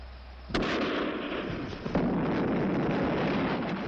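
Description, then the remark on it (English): A sudden loud dynamite blast, set off by a lantern flung down onto the dynamite, erupts, followed by a second sharp crack and a continuous roaring rumble of debris that fills the rest of the moment, heavy, with no voices. “He grabs a lantern and flings it down at the dynamite.”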